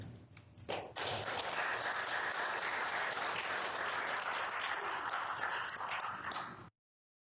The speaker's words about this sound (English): A round of applause for everyone who shared a story, please.